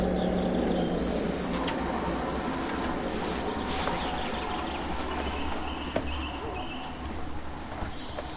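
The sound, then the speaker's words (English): Low, soft cooing of a dove rises from a dense outdoor chorus of birdsong, with scattered chirps and twitters higher up and a steady background hum throughout. “That I heard, but I think it's shot over there. Called a dove.”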